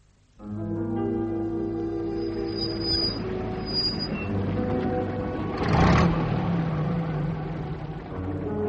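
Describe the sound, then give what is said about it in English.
A car engine starts up suddenly and keeps running with a steady rumble, swelling briefly as if revving before settling back to a continuous drone. No one speaks. “Why don't you put your car in the coach house?”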